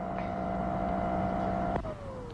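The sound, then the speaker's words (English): A vacuum cleaner drones with a steady motor whine, then a sharp click as it is switched off and the whine slides downward in pitch as the motor winds down. “That's why he kept the vacuum on, so we shouldn't hear.”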